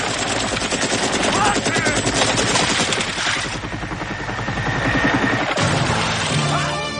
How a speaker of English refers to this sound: Rambo jumps off the cliff into the water from the explosion. And the Russians from the helicopter shoot up the water in hopes of killing him still.